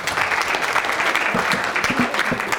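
Steady audience applause fills the whole stretch, a dense patter of many hands clapping at once, fairly loud, with no voices breaking through.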